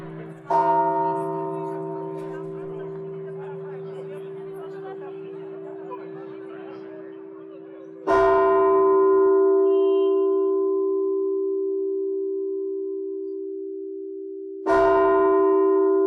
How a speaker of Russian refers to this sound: Звон – это богославия, богославие звуком, вот так. Ну, богославие – это и есть часть богословия.